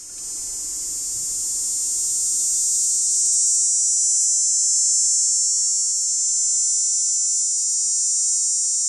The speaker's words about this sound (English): Dog day cicada, Tobison canicularis. One song each of two males.